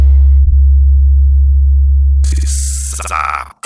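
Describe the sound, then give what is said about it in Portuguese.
A loudspeaker test tone from a Spider Alto-Falantes 9K speaker: a loud, deep, steady bass hum holds for about two seconds, then harsh, buzzy high-pitched bursts layer over it before cutting off abruptly. No one speaks. “Não precisa ninguém se assustar, certo? É só um teste.”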